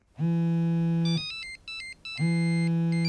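A loud electronic telephone ringtone signalling an incoming call: a sustained buzzing tone, then a quick run of high beeping notes, then the buzzing tone again. No voices are heard.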